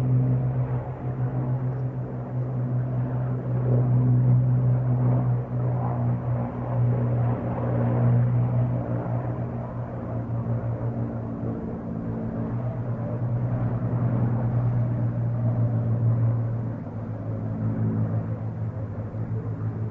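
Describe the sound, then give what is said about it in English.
Piston-engined vintage warplanes at an airshow, including a Tempest or Sea Fury in Iraqi Air Force colours with a Bristol Centaurus engine, drone overhead, a steady, throaty engine roar with a deep harmonic hum that swells slightly and holds for the whole stretch, fairly loud and with no talking. “There was then a Tempest or a Sea Fury in Iraqi Air Force colours. I'm not quite sure which was which, but it's a Bristol Centaurus engine.”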